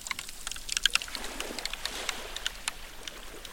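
Meltwater from a glacier in Svalbard in summer runs into the fjord in a steady hiss and trickle while sharp, irregular cracks and pops of the glacier ice snap through it, quick crisp ticks scattered throughout with no voices.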